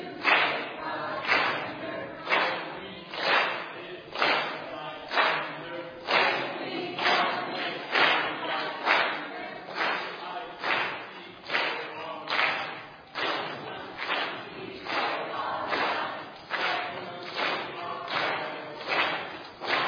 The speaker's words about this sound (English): So come on, green team. Come up here. They are a winner tonight. Let's go ahead and give them a chance to start with a cheer tonight.